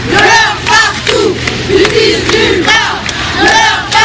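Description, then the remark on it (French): A large crowd of hundreds of protesters gathered in the rain in the evening in France chants and shouts in rhythmic bursts, many voices rising and falling together in a loud, continuous roar of protest slogans with whistles and cries cutting through. “Hier soir, des milliers de personnes se sont rassemblées aux quatre coins du pays et notamment à Paris.”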